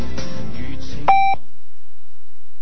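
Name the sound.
radio time signal beeps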